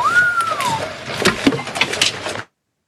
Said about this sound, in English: I could play that whistle on a loop. I know. That's an amazing whistle there.